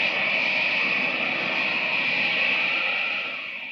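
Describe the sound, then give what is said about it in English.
A loud, steady rushing whoosh of Superman leaping into the air in the moonlight and taking off into flight in widening circles, a broad airy roar with a bright hissing edge that holds for a few seconds, then begins to fade away at the end. “Red cape streaming in the wind, blue costume flashing in the moonlight, Superman leaps into the air, hovers a moment, and takes off in a series of widening circles to find the autogyro”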